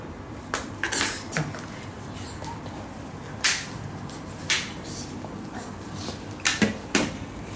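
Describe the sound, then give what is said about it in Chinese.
A ball is bounced by hand on a hard floor in a run of sharp, irregular thuds, some coming in quick pairs, over a steady low background hum with no talking. “哇，你这个难度大哦，你这个还要朝球上地上弹啊。哎，对啦，这是在干嘛？这是拍球吗”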